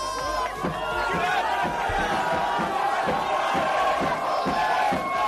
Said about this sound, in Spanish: Los seguidores del PSG celebraban y vitoreaban la presencia de Kylian Mbappé con la camiseta del equipo francés, que anuncia que seguirá siendo jugador del club galo hasta el año 2025.